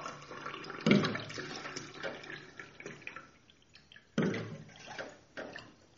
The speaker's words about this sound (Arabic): لنحط حد منا كباية ماء نظبط شيء.